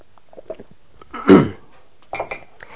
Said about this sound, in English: I guess I ought to take a sip of this.